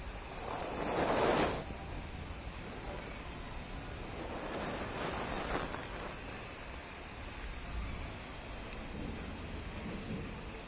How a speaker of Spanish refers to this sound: Ahora si escuchan truenos, eso ya se hizo parte de nuestro entorno, parte de nuestra realidad en este momento.